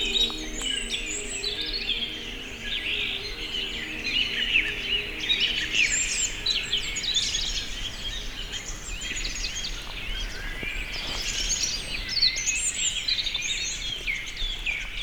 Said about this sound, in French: Les oiseaux, une myriade d'oiseaux chantent ses gousilles.